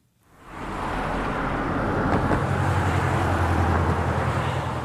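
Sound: road traffic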